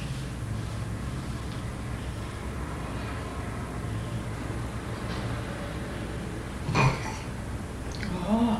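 burp

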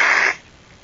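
child blowing nose

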